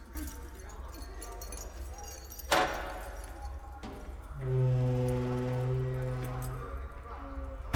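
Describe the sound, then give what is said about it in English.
Keys jangle with a couple of sharp metallic clunks as a guard locks a gate, followed by a low, drawn-out creaking tone, all against a steady background hum. “Mark stands with his head bowed until the guard has locked the gate and passed back through the door”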